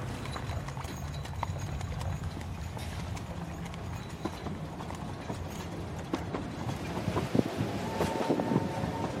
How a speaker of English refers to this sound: So now we've got London Bridge, we've got the old trains coming to London Bridge now behind us.